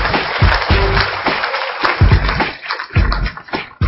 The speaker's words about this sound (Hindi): Time up. अपने लिए ताली बजा ले पहले तो।